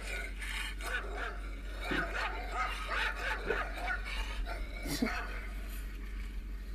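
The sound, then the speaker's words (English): A dog barks and yips repeatedly in short bursts, played back through a small device speaker held in a person's hand, with a steady low hum underneath and some voice-like sounds mixed in. “She's going, all right, that dog bark is coming from your hand.”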